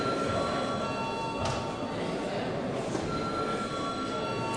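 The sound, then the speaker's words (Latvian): The electric voting bell of the Latvian parliament (Saeima) rings continuously, steadily and loudly for several seconds before a vote, a harsh buzzing clang with no pauses, with no one speaking over it. “Lūdzu zvanu.”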